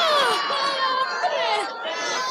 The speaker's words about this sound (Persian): بچه ها یه هورای بلند بکشیم.